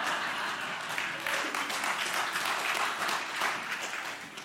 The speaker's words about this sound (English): The God of glory and grace and the joke about the hipsters gets the clapping. Oh, my goodness.